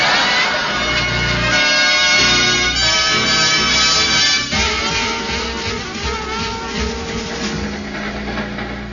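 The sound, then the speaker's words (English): A steady, loud mechanical rumble and clatter of a moving train rolls on without pause, heavy low-end churning under a dense layer of whining, ringing tones. “Well, I can afford to say it now, Sapphire. The train is moving.”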